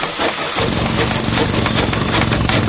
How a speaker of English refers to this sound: Thank you, chat room, for reminding me to turn on my sound effects, my roofing sound effects, such as, you know, the jackhammer. That's what usually happens on a roof. Where'd the jackhammer go?